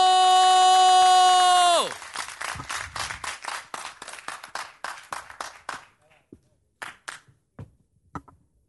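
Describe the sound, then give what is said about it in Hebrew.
A steady electronic tone sounds for about two seconds, then audience applause breaks out to welcome a performer onto the stage and gradually thins into scattered individual claps before fading away. “קבלו, בהמון מחיאות כפיים”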